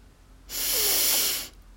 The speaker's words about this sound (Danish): Træk vejret dybt ind.